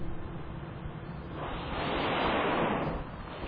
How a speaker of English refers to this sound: Listening now to the sounds of the mighty whales breathing.